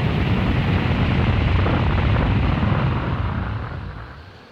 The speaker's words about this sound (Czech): Myslíte ten vzdálený hluk? Jo, ten! Co to je? Strážmistře, to je lavina!